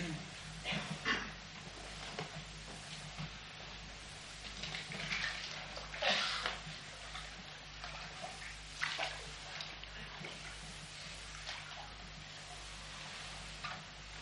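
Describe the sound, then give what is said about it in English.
Water splashes and sloshes steadily in a baptismal pool during a church baptism, with brief louder surges of splashing over a constant low background hum and faint movement. “shall we go down to the water?”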